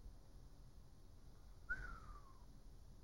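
A single brief whistled note that slides downward in pitch, thin and fairly faint, heard alone against a quiet background hiss.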